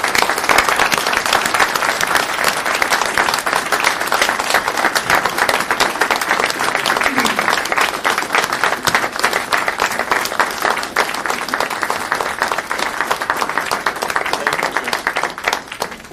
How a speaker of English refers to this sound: I would like a nice round of applause for the guy that actually did it.